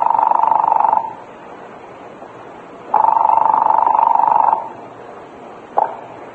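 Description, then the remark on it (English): A telephone line buzzes on the other end during a call to a police department: a steady, mid-pitched electronic buzz sounds for about a second, pauses, buzzes again for longer, then starts a third time before cutting off. “And I was holding my breath as I heard the buzz on the line at the other end.”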